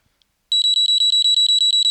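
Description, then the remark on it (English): A temperature sensor device's built-in alarm, meant to sound when it detects over 54 degrees Celsius, starts abruptly after a brief silence: loud, shrill, rapid, evenly spaced high-pitched electronic beeps that continue without pause. No one speaks. “It's the alarm that's built into the device, yes.”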